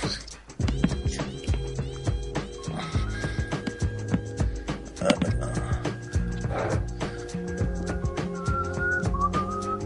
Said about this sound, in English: Why are you whistling? Sorry. I heard you whistling during that last call. Yeah, no, I was whistling on the call.